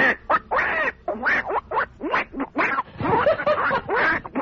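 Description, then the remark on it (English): A duck quacks over a telephone call in a rapid, chattering string of loud, nasal calls that run almost without pause for several seconds, with no one talking. “Another quack phone call.”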